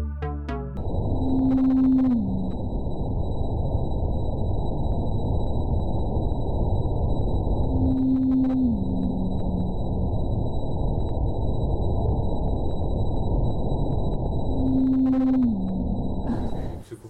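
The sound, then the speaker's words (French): Antarctic blue whale calls, played sped up ten times: three evenly spaced tonal calls, each a steady hum that slides downward, the same signal repeating about every six seconds over a constant wash of underwater noise. “Là, c'est vraiment la signature vocale des baleines bleues antarctiques.”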